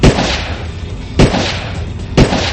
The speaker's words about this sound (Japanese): 4発の弾丸がバンパーの前に着弾したが、小型車の速度は落ちない。